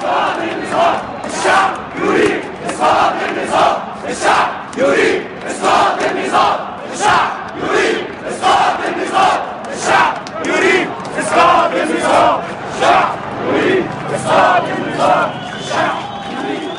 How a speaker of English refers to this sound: That resonated so strongly because it was a chant that we'd first heard in Tunisia, and it was about a change of the entire structure. It wasn't just about Mubarak, it wasn't just about his ministers, it was about the whole regime.